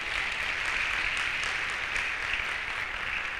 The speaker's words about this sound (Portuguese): Vem aqui, irmão. Aplaudam, irmãos, a Jesus por esse irmão que...